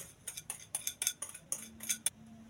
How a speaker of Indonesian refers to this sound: Lalu kita tuang telur sama gula yang tadi udah kita aduk.